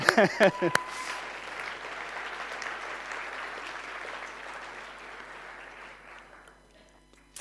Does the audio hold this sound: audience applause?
yes